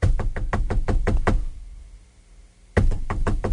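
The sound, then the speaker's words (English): Rapid, loud knocking on a door: a burst of about eight sharp raps, a pause of over a second, then another quick run of knocks. Clear, with no voices. “Somebody at the door?”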